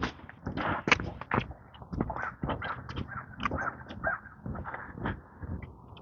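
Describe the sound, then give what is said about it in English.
A flock of crows caws in overlapping harsh bursts throughout, steady, with a busy outdoor background and a faint voice now and then. “Coming up some crows. Hello, crows.”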